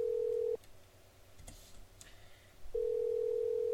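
As a phone number is dialed, a steady electronic telephone tone hums, cuts out for about two seconds with a couple of faint clicks, then comes back on just as steady. No one speaks.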